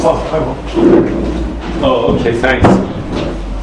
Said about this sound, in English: you know what, I'll close the door. I don't want to delight anybody.